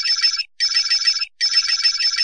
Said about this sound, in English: Now that noise means you're going through the menu.